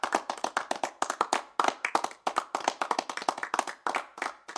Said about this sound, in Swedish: Kanske en liten applåd här. Tum-tum-tum-tum.